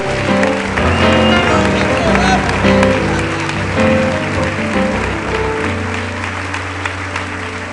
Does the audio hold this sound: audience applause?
yes